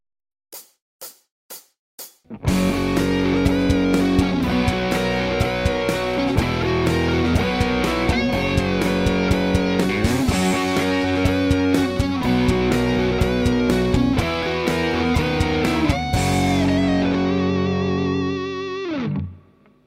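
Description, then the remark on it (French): Four sharp clicks count in, then a distorted electric guitar plays a fast, flowing lick of pull-offs and open strings at normal speed, with effects and chorus, notes tumbling steadily before a final sustained note fades out. “Donc, faut que ce soit fluide, n'hésitez pas à accentuer chaque première note de chaque corde qui donne au ralenti. Et en vitesse normale.”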